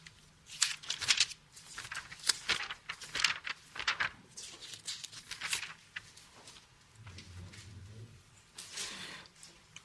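Thin Bible pages are flipped quickly while looking up Psalm 147, a steady run of crisp rustles and swishes with short pauses between turns, with no one speaking.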